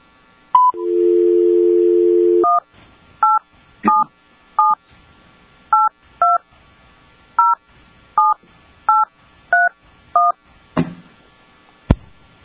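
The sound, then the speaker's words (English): A steady dial tone plays for a couple of seconds, then about eleven crisp keypad beeps follow in a fairly even rhythm, clear, with a couple of clicks at the end, as a telephone keypad dials a call to get two people on the phone during a meeting. “And then we are going to be getting Mr. Jensen on the phone, as well as the complainant, Ms.”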